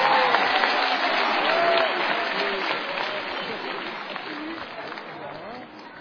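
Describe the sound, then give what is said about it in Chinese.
A crowd at a Beijing Deyunshe crosstalk show applauding as Guo Degang and the day's performers are invited on stage: steady dense clapping for about six seconds that starts loud and slowly tapers, with faint scattered voices and brief cheer-like tones mixed in. “那首先呢，让我们掌声请出郭德纲老师带领今天参加演出的全体演员上台跟大家见个面，咱们掌声有请。”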